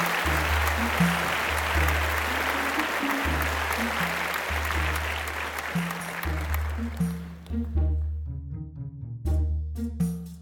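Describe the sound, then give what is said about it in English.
Dense crowd applause for a round table panel rolls over a steady, bass-heavy music bed, then thins out after about seven seconds, leaving the music with sharp percussive hits. “Let's hear it for the round table. Clap, clap, clap, clap, clap, clap, clap, clap, clap, clap, clap, clap.”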